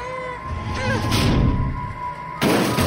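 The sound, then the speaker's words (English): A heavy wooden desk, shoved from a classroom over the top of a staircase, tumbles and crashes down the stairs to the next landing: a run of deep thuds and rattling bangs, building to a loud, sudden final smash near the end. “The crashing was like music as the desk fell to the next landing.”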